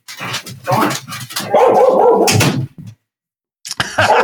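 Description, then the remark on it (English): A female dog barks repeatedly behind a door, muffled through it, in irregular fairly loud bursts with whiny, yelping tones in between, a short pause, then more barking, as if a package were being delivered to the house. “Well, she was breaking through the door, but maybe it's a little bit muffled now.”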